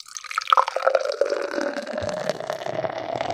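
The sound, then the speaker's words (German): Beer glugs from a can into a glass in a steady pour, with splashing and fizzing foam building continuously, nothing else in the way. “Ob ich so multitaskingfähig bin, dass ich einschenken kann”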